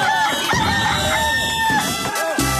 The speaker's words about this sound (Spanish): El gallo de Radio Activa presenta. Especial de fin de año. Lo peor y lo menos peor del 2022. Con el gallo de Radio Activa.